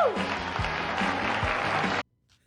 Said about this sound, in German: Tool Time! So ist es. Binford-Werkzeuge präsentiert Tim Taylor, den Heimwerkerkönig. Applaus!